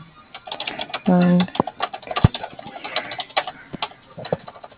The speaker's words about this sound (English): I'm just writing all this down. Hearing you clicking, I appreciate that.